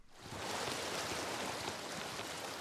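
Colorado River irrigation water, released from a lateral to soak an acre, flows across a farm field in southwestern Arizona in a steady hiss and wash that rises within the first moment and holds evenly throughout, with no voices.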